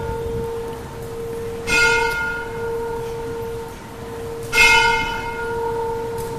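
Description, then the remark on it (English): Two deep church bell strikes, about three seconds apart, each ringing out with a long humming decay over steady background noise; no one speaks. “Okay, let's wait for the bell.”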